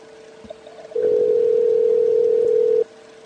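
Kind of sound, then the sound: signal or alarm, phone call dialing tone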